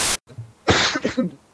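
A sharp burst of noise cuts off abruptly, followed after a short pause by a louder, explosive sneeze straight into a microphone, with a breathy, slightly voiced tail. Nobody speaks.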